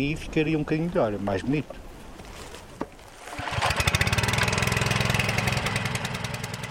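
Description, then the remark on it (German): A small water pump motor sputters to life after a brief pause, then settles into a loud, steady, rapidly pulsing engine drone, pumping water through a long hose up a slope into large plastic buckets for watering young trees. Voices are heard briefly before it starts. “schmeißt den Motor an. Das Wasser wird durch einen langen Schlauch nach oben auf den Hang gepumpt und landet in großen Plastikeimern.”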